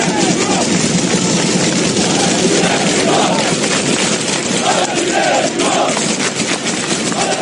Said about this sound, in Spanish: En Lezama, en el final del entrenamiento, con los aplausos, con el bufandeo, para, bueno, dar ese último apoyo, ese ánimo.